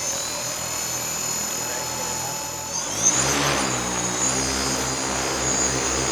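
A steady whirring drone of spinning propellers of a tethered drone hovering in place, powered continuously through a tether cord instead of a battery, with a buzzing rotor hum that shifts and swells in pitch about halfway through, no voices.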